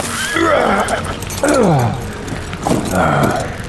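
A horse whinnies loudly, three quavering neighs spaced about a second apart, each rising then falling in pitch over a steady background rumble, as its chilled rider dismounts by the glowing embers of his burned-down house.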